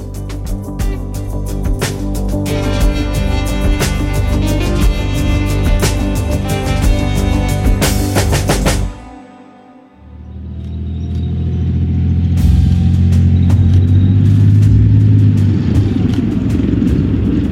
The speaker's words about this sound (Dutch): Van de motor en het geluid van de rupsbanden over ruig terrein van een tank Leopard 2. De Leopard 2 is een zware gevechtstank waar 4 bemanningsleden voor nodig zijn om te besturen en te bedienen. Het is een 60 ton wegend monster in legerkleuren.